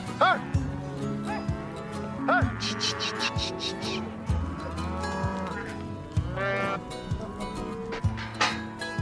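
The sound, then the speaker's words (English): A gathered herd of cows and calves moo repeatedly, overlapping calls of varying pitch, some louder than others, with a steady low rumble of livestock activity beneath. “Now we're going to separate the cows from the calves, and then we'll work the calves.”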